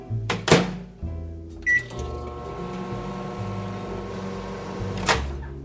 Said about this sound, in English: So I am going to grab an English muffin from the freezer, give it a partial thaw in the microwave.